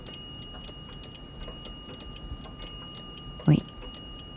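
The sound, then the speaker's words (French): A pendulum clock that has just been repaired ticks steadily at a brisk, even pace, its crisp ticks fairly quiet, with one brief spoken word partway through. “Elle bat régulièrement.”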